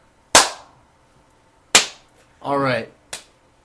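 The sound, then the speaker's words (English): Three sharp, loud hand slaps spaced apart, like high fives, with a brief voiced exclamation between the second and third slap. “On that note, let's give the official high five to end this intro.”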